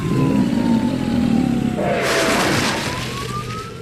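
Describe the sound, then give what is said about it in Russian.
A large white MAZ truck pulling a giant smoking silver tanker trailer marked 'Flammable' roars low and loud with strain on Prospekt Mira, rumbling steadily as it creeps slowly along, with a thin siren-like whine gliding above it and a burst of hiss midway. “За ним, в шагах в 10, с натужным ревом, медленно полз большой белый МАЗ с гигантским дымящимся прицепом в виде серебристой цистерны.”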